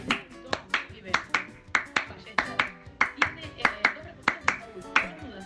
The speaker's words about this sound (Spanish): Muy buenos los aplausos